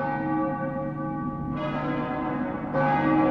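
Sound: church bells ringing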